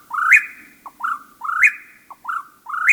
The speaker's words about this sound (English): After dark, when most birds sleep, a few break into song, like this whippoorwill.